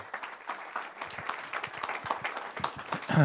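A crowd applauds steadily, many hands clapping in a dense, irregular patter that stays fairly loud throughout, with a brief cheer or shout near the end.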